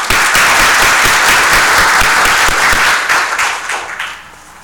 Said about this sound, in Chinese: 我们用我们的鼓掌来欢迎他。